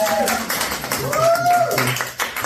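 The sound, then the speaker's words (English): An audience at a queer, trans-centered comedy open mic claps steadily in a dense, continuous patter for someone getting on stage, with a few voices whooping and cheering over the applause. “The rules are we clap for everyone that gets on stage, right?”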